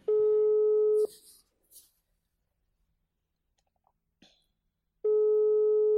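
A steady electronic ringback tone sounds for about a second, then silence with a few faint clicks, then the same tone starts again, loud.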